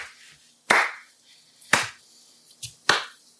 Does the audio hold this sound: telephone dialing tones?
no